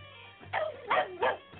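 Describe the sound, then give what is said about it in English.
A dog named Ted barks three times in quick succession, sharp, with short gaps between each bark and a faint low hum underneath. “No, he's not tired of barking.”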